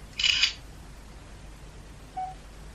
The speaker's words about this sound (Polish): Biorę słoik, który chcę sfotografować. I naciskam 1, by zrobić zdjęcie. Wykonywanie zdjęcia.